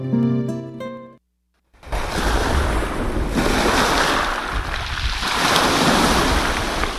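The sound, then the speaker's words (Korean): A short musical chime, a moment of silence, then loud winter sea waves crashing and rushing onto the shore in a continuous roar, with gusty wind mixed in. “겨울바다를 거닐다 문득 듣다”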